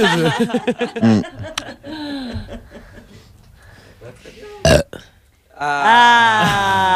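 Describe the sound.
A loud, drawn-out burp into the microphone, followed by chuckling and people talking, with a brief sharp noise and rising laughter near the end.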